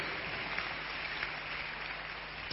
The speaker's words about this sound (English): Clap your hands now. Clap your hands.